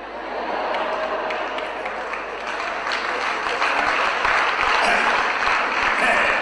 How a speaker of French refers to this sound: Mais vous l'applaudissez, il est assis derrière.